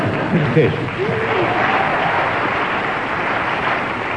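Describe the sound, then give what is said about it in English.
Steady applause from a studio audience, a dense, even patter of many hands clapping that holds at a constant loud level throughout, with faint voices mixed into the crowd noise. “A well-deserved round of applause for your contribution on that impossible subject.”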